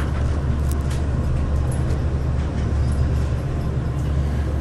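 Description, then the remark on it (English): Steady, enveloping low rumble of a moving elevator cab in a JCPenney store, a continuous mechanical drone at even loudness throughout, with faint muffled voices now and then in the background. “I'm in the elevator. I might lose you.”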